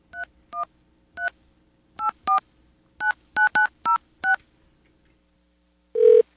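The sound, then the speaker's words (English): A rapid sequence of about eleven crisp touch-tone beeps as a phone number of the defunct phone company Ameritech is dialed, with uneven gaps, followed by a short louder buzzy tone at the end. “Let's go and find another phone company that no longer exists.”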